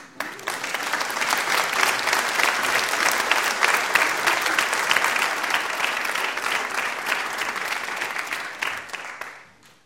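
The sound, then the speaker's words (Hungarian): Sustained applause from a choir directed at the concert audience, a dense wash of many hands clapping at steady volume for about ten seconds, swelling in quickly and tapering off at the end, with no voices standing out. “Úgyhogy a legnagyobb tapsot a kórustól jön a közönségbe.”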